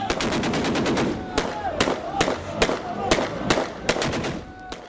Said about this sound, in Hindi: इस ऐलान के बाद लीबिया की सेना ने जीत की खुशी में अपने हथियारों से गोलियां चलाईं।